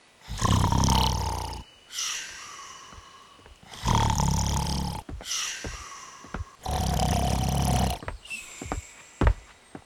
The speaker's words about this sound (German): Wartet mal, wieso liegt der denn auf dem Boden und schnarcht?